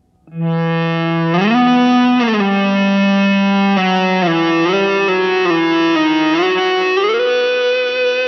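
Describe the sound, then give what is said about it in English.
Ebow-driven electric guitar sustaining one unbroken, harmonically rich tone, the Ebow held stationary while the driven string is played with the left hand, its pitch sliding and stepping between notes without any picked attacks, heard alone at a steady loud level for about eight seconds. “The Ebow keeps the string vibrating under your fingers, so you don't have to pick each note.”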